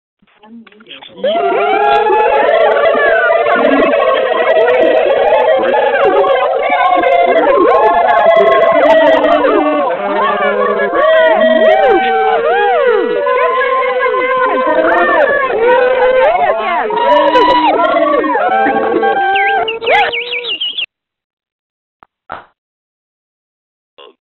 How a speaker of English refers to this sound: I want to hear you screaming at the phone when I unmute the lines right now.